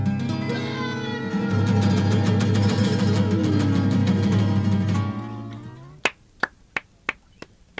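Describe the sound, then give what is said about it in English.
Jazz music with sustained chords fades out on radio station CFRU 93.3, then a single person claps several times, about six sharp, evenly spaced claps, distinct against near silence. “Thanks, that sound of two hands clapping.”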